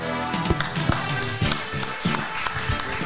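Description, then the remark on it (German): An audience during a film quiz claps in a dense, steady patter, with a few sharper, louder claps popping out of the wash and some voices faintly mixed underneath. “Die klatschen nicht, weil, die klatschen nicht, weil sie schockiert sind, dass du es weißt.”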